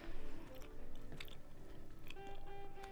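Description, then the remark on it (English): Moist chewing with irregular crunchy bites and soft mouth clicks, steady over a few seconds, with a faint background hum and no talking. “You're chewing.”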